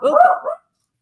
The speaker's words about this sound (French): On a des animaux à la maison, donc on entend quelques jappements à l'occasion.